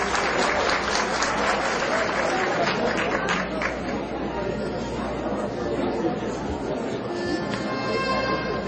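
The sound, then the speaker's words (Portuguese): Sustained applause from a sizable audience at a ceremony honoring recipients of the forrosense citizen title and the Itiquira merit commendation, steady and fairly loud throughout, with a murmur of crowd chatter mixed underneath the clapping. “Uma salva de palmas.”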